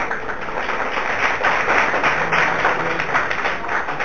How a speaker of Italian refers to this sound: Questo applauso per Paolo di Tarso.